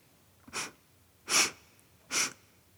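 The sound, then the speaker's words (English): Three short, breathy sniffs spaced about a second apart, someone smelling something like a cow pasture, each a brief hissing burst of air through the nose with a bright, airy tone and nothing else in the background. “Why are you sniffing?”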